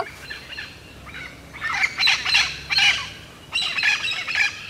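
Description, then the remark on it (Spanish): A flock of green parrots squawks in harsh, overlapping bursts, several loud calls coming in quick clusters, with no talking over them. “Colgando de la soga, como estaba, vio pasar una bandada de loros verdes.”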